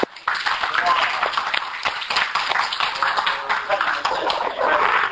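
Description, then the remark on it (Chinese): An audience breaks into steady, dense applause that starts abruptly and keeps going for about five seconds, many hands clapping together with some voices mixed in. “谢主， 谢主， 掌声鼓励。”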